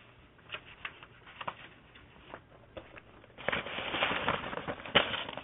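Papers being shuffled on a desk: a few scattered crinkles and taps at first, then a steady, louder burst of rustling and sliding sheets toward the end. No one speaks.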